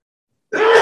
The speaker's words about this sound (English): Bless you.